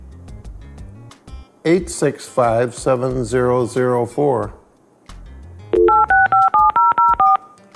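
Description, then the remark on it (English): A voice speaks briefly, then a quick series of about seven or eight clear touch-tone beeps follows in an even rhythm as a voice-controlled computer phone dials a number over the internet, calling a cell phone on a wheelchair. “8657004. Dial phone. Thank you. Dialing.”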